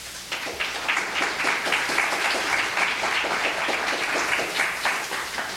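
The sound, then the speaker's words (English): An audience at Prairie applauds a speaker as he is introduced, with many overlapping claps forming a dense, even patter that holds at a fairly loud level for several seconds without any talking. “Usually people wait till the end to decide whether to applaud or not.”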